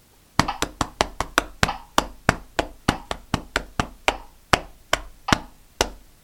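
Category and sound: human body sound, hands clapping a rhythm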